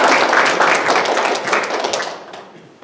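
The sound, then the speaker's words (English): Dense applause from a crowd, many hands clapping at once in a steady, loud wash that thins and fades out toward the end, with no voices standing out. The clapping honors family members of people who served in the military, who are standing. “Oh, come on, the clapping should be just as much for them.”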